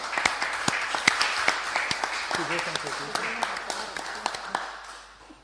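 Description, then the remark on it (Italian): An audience at a council session applauds to welcome a newly seated council member, a dense crackle of many hands clapping at a steady rate, with a voice or two murmuring underneath midway before the clapping tapers off at the end. “quindi direi che gli facciamo un applauso, la invito a sedersi da questa parte.”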